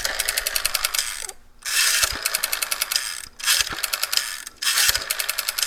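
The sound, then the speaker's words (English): A rotary telephone dial on a Western Electric phone made by the Bell System is turned and released several times; each spin brings a brisk, even run of sharp mechanical clicks as it returns, with short pauses between dialings and no voices. “So here's a Western Electric phone made by the Bell System, and this had a great sounding dial to it.”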